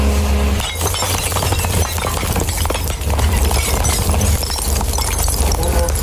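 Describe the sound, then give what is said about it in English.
Loud, continuous crashing and shattering of glass bottles at the glass area of a recycling centre, a dense clattering stream of breaking glass lasting several seconds, close by with a low rumble of machinery underneath. “Sorry, this was the glass area next to us.”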